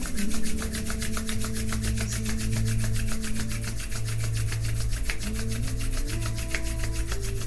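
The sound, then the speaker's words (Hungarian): Hands rub briskly together in a fast, steady back-and-forth rhythm to make the palms hot, a continuous dry swishing friction over soft sustained background music, with no talking. “A két kezedet dörzsöd össze jó forróra.”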